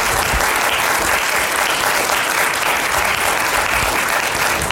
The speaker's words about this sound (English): I want to appreciate you, and we have people in there, so for those of you who are listening, please extend your thanks with a round of applause for these people.